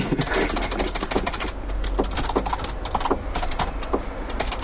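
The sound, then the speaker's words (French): A folding scooter clatters as it is folded up: a quick, irregular run of sharp mechanical clicks and rattles over a steady low background hum. “Une fois au boulot. Il se replie.”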